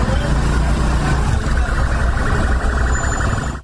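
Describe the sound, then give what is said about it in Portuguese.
A police car passes by during a shootout, its loud engine and road noise filling the scene steadily before cutting off abruptly at the end. “Ó o carro da polícia ali, ó.”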